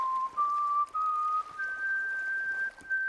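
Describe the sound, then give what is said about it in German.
Someone whistles through pursed lips, a slow tune of long sustained notes stepping gradually upward, with no talking. “Traurig spitzt der Ohrwurm die Lippen und beginnt zu pfeifen.”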